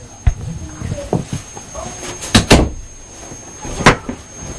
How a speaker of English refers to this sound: Oh, shut our door as well.